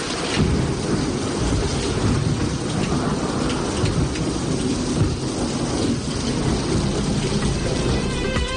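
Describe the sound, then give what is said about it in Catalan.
Steady heavy rain pours down with a dense hiss, while deep thunder rumbles roll continuously underneath, loud throughout with no voices, during a major thunderstorm with electrical discharges over the province and city of Barcelona. “El component elèctric d'aquesta tempesta important s'està notant també a la província de Barcelona i a la ciutat de Barcelona”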